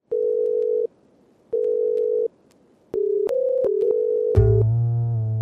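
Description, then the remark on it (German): Telephone tones before a call to a professor of business psychology: two steady, evenly spaced beeps of the same pitch, then a longer tone that steps up and down, ending in a richer, buzzier tone. No one speaks. “Am Telefon begrüße ich Frau Prof.”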